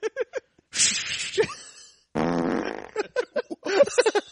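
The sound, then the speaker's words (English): A long, loud, buzzy fart sputters for nearly a second, preceded by a breathy hissing burst and framed by short, choppy vocal bursts before and after. “Couldn't hold it any longer.”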